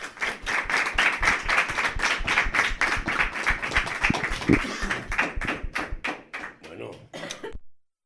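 Warm applause from a group of students bidding farewell to Miguel de Unamuno, a steady stream of brisk hand claps that holds strong for several seconds, then thins out into scattered claps before stopping.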